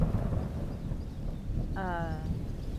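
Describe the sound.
Deep, rolling thunder rumbles steadily for a few seconds, low and heavy, with a brief tonal, voice-like sound rising over it near the end.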